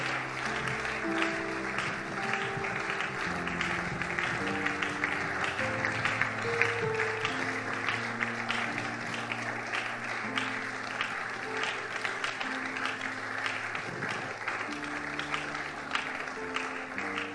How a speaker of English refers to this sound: Keep clapping. Motivate them as they come.